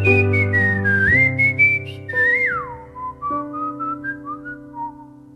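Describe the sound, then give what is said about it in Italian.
Someone whistles a bright, sliding melody up front, carried over a steady instrumental backing whose chords shift every second or so, with no voices singing or talking. “Ti trovi sotto casa a fischiettare.”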